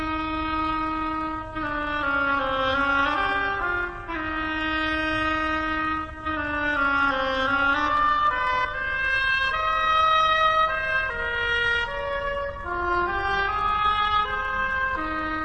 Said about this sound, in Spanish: cada personaje en este cuento, en vez de ser actuado por un artista, está representado por un instrumento en la orquesta. El pajarito, por la flauta. El pato, por el oboe.